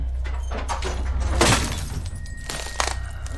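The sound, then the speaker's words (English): A woman throws glass in a bedroom: it smashes in one sharp, bright, loud crash midway through, followed by scattered clattering impacts over a steady low background rumble. No one speaks. “throws glass, then overturns a table.”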